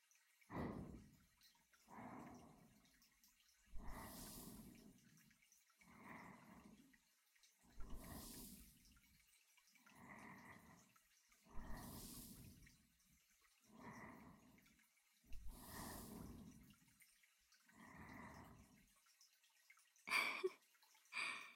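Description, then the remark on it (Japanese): Water trickles and drips in soft, repeated pulses about every two seconds, gentle and quiet, with a few brighter splashes and no voices. “水の音聞きながら横になるの。”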